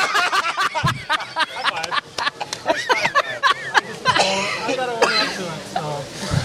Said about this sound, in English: Oh, I might pass out. I stopped breathing when I coughed right there.